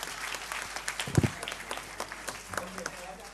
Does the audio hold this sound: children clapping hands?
yes